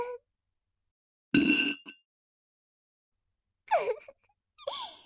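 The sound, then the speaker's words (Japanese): A single loud, buzzy fart echoes inside an earthenware teapot with a hollow, boxy ring for about half a second, then a pause before two short breathy vocal moans or gasps close out the quiet stretch. “土瓶の中でわらわのおならの音が反響しているのがわかるぞ。”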